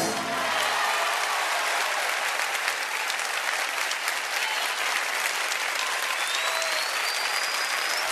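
Sustained applause from a live audience, a dense steady wash of clapping at even loudness throughout, with a few faint whistles rising above it.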